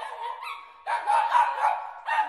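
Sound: small dog barking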